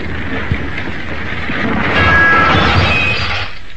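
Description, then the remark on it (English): A burning car with a passenger inside plunges over the edge of a gravel pit and crashes: a loud, sustained rumbling roar with crunching and clattering noise for a few seconds, then fading out near the end. No one speaks. “When the flames had a hold, he jumped off the running board from where he'd been steering, and the blazing car, together with its pathetic little passenger, plunged on until it crashed over the edge of a gravel pit.”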